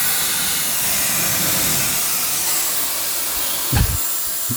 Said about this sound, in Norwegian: Skal du blåse opp denne påsen fra møbelgiganten for hånd, holdt jeg på å si, for å få luft, eller hva? Nei, vi har kompressor. Så da går vi i gang. Det gikk sent. Jeg ser jo allerede nå at jeg har problemer med å få luft inn i påsen.